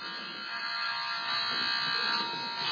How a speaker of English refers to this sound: So do you want to test the buzzer? Go ahead and test the buzzer.